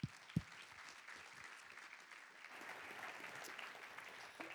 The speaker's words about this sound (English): I want us to welcome him by clapping our hands and being excited about Josh coming to preach tonight.